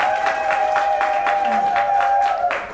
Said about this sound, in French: Je la remercie et j'applaudis encore une fois pour elle.